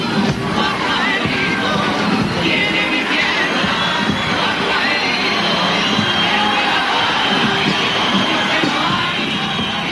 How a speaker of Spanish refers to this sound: Como bien se escucha en la grabación, el público del teatro empezó a silbar y poco a poco se fue calentando el ambiente y se escucharon abucheos e insultos.